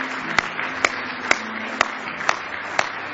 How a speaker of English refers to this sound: Somebody say praise the Lord. Why don't you just give the Lord a nice hand clap of praise tonight?